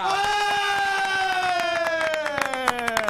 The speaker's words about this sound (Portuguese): Senhoras e senhores, recebam com muitos aplausos no Bola nas Costas, Dunga!